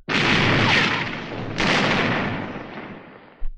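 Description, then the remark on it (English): Two heavy cannon blasts from a ship's broadside, fired at an enemy ship during a sea battle. Each is a sudden loud boom followed by a long rumbling decay, the second coming about a second and a half after the first. No voices. “Give him another broadside! By thunder, we'll see you to Davy Jones! They need persuasion, mates! Fire at will!”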